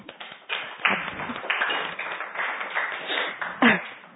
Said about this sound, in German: So, jetzt sind glaube ich alle munter nach diesem tosenden Applaus.